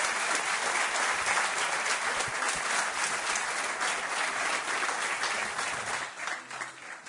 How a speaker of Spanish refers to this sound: Os pido un aplauso para Jesús Callejo, nuestro primer invitado.